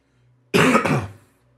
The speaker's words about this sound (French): Il y a quelqu'un, j'ai entendu tousser là.